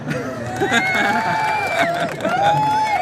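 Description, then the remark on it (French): A crowd applauding steadily for about three seconds at an award presentation as a trophy is handed over, a dense wash of clapping with cheering voices and a sustained whistle-like tone riding over it. “Applaudissements.”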